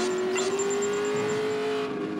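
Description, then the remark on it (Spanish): A toy car engine hums and revs in a steady, buzzing drone with a thin high whine on top, fairly loud, running continuously without any voices. “Brandon no escucha a su mamá. Continúa jugando carros.”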